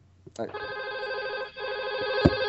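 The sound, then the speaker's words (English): A landline telephone rings loudly, its trilling bell sounding in two sustained bursts with a brief break between them, and no talking over it. “Don't answer it. No. Still have a phone there?”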